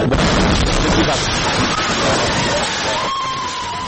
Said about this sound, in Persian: لحظه انفجار امروز در عقب دروازه شورای ملی، این انفجار با درگیری مسلحانه همراه بود.